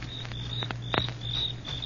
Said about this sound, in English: You hear that? Yeah, sure. Just crickets, though.